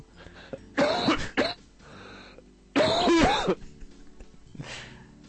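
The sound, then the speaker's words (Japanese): A loud coughing fit: a burst of harsh, rasping coughs, a short pause, a second strained burst, then one weaker cough trailing off. “大丈夫？咳込んでるけど。”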